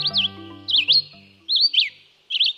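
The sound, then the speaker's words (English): A songbird sings short, bright whistled phrases in four quick bursts, clear, over a soft sustained low musical tone. “Songbirds delight us with their music, but at times they might sound repetitive.”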